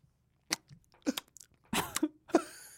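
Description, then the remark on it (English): A handful of wet lip smacks, short sharp mouth clicks spaced irregularly across a few seconds. One longer, smeared smack falls near the end, with quiet pauses in between and no talking. “But an idea, you know, a sound that people make for when you come up with a good idea. A lip smacking idea.”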